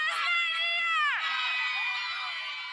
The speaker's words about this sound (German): Er ist ohnmächtig, schreit eine Frau, während sie Sicherheitskräfte dabei filmt, wie sie auf einen Demonstranten einprügeln.